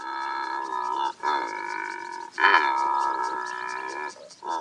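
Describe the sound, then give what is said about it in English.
A secretary bird, a 4-foot-tall bird of prey of the sub-Saharan African grasslands, gives harsh, croaking calls in three long, sustained bursts. Each has a raspy, buzzing texture and a steady, fairly low pitch, loud and with no voices. “Meet the secretary bird, a bird of prey like no other on Earth.”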